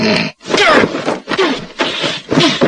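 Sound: loud snoring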